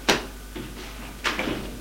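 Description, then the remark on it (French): A sharp mechanical click of a door latch as a door off a long metal corridor on the fourth floor is unlocked with a key card, then a softer knock and a second clunk as the door is pushed open, with no voices. “Ouvre une porte avec une carte et le fait entrer.”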